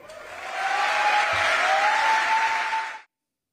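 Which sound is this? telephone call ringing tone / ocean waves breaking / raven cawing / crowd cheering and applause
crowd cheering and applause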